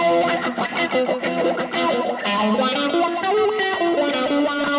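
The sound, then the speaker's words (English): An electric guitar plays continuously through four effects pedals, with sweeping wah-wah tones, pulsing tremolo, gritty overdrive distortion and echoing digital delay, loud with no voices. “I'm going to start with some wah-wah and some tremolo. I'm going to add in some overdrive distortion, then play around with the digital delay.”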